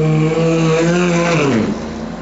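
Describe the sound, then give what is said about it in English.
A loud, high-revving race car engine whines steadily as the car comes off the jack after a tyre change at a pit stop, then its pitch swoops downward and the sound eases off as the car pulls away. No voices are heard. “The car comes off the jack, job done, lights on.”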